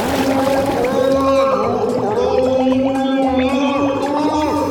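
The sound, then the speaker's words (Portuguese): A voice gurgles and warbles through water as someone tries to talk underwater, producing bubbly, wavering tones that rise and bend over a steady low hum, with no clear words coming through. “Eu tava tentando falar debaixo d'água, mas não deu certo.”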